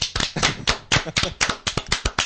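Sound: applause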